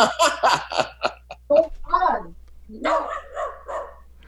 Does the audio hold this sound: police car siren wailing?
no